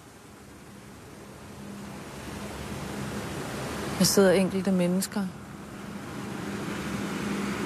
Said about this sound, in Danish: Trafik kører ud. Trafik kører ind.